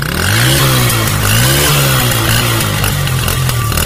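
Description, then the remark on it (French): A motorcycle engine revs loudly, its pitch rising and falling in repeated throttle swells over a few seconds, with no voices. The motorcycle is travelling 5 km further west to Dironzo, the last village in Côte d'Ivoire on the way to Guinea-Conakry. “À 5 km plus à l'ouest, toujours en moto, nous voilà à Dironzo, dernier village ivoirien en partance pour la République de Guinée-Conakry.”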